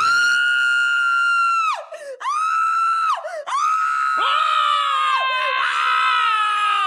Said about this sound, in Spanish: Ella fue la última en hacerlo. Al entrar, unos alaridos la asustaron.